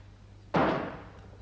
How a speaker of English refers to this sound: What was that, a gunshot? Maybe a 38.